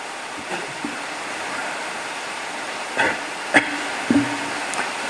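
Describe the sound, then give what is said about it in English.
Heavy rain pours down in a dense, unbroken hiss, with a few sharper knocks and clatters rising briefly out of the steady wash near the end. No one speaks. “or we can wait for a while till the rain subsides.”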